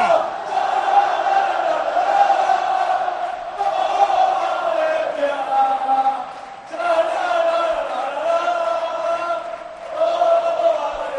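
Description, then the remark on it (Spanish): A large crowd of voices roars a battle cry in unison, loud and sustained for several seconds at a time, with brief dips between swells: Valencia football players facing their supporters' end, led by Dani Parejo with a microphone, and 25,000 fans shout this season's Valencianism battle cry. “Dani Parejo ha querido que los 25.000 aficionados se sintieran parte de la fiesta y todos los jugadores han hecho al unísono este grito de guerra, como digo, del valencianismo.”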